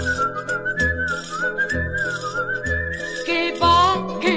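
A clear, sustained whistle glides and wavers in pitch like whistled speech, the whistled language of the island of La Gomera, carried over a steady instrumental backing with a rhythmic bass; it grows louder and more ornamented near the end.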